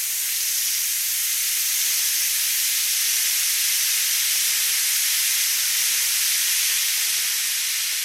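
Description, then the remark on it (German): A steady, bright fizzing hiss, like an effervescent tablet dissolving in water, holds at an even level for several seconds with a soft crackle and no voices. “Oder würden Sie gebannt zuschauen, wie eine Brausetablette versprudelt und wartet, bis sie komplett im Wasser aufgelöst ist?”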